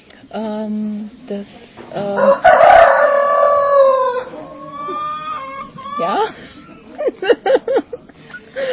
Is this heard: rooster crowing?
yes